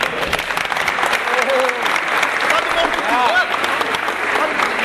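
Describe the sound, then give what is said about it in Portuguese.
A sustained round of audience applause, dense clapping from a crowd filling the whole stretch, with faint voices and a few cheers rising through it. “Passar de palmas aí.”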